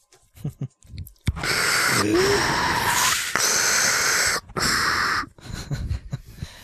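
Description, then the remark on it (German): Loud heavy breathing with a rasping wheeze: a few long, drawn-out breaths in quick succession, Darth Vader–like, with quieter murmurs just before and after. “Oh, irgendjemand schnauft hier wie Darth Vader.”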